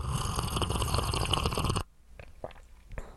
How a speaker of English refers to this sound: Yep, you heard that right. It's the unmistakable slurp of someone eating hot soup. In case you missed it, can we just hear that one more time?